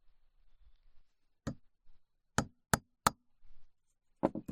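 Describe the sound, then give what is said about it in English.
About six sharp, woody taps strike at an uneven pace in a workshop, with a single hit, then three spaced blows and a quick final pair, as notches are tapped into wood before drilling. No one speaks. “So we're going to just tap a few notches in here and then do the drilling.”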